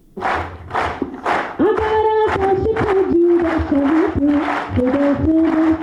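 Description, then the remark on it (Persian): At a ceremony held by the Afghan National Army training centre, eleven disabled Afghan National Army soldiers, athletes heading to the Invictus Games in Canada, clap in a steady, loud rhythm, a few heavy beats, then break into sustained shouting and cheering while the rhythmic clapping continues underneath. “این صداها و چکچک از بحر تشویق 11 سرباز معلول اردوی ملی افغانستان است که قرار است به زودی برای شرکت در مسابقات جهانی موسوم به شکست ناپذیر وارد کانادا شوند.”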